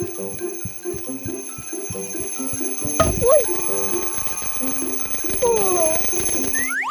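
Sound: alarm clock ringing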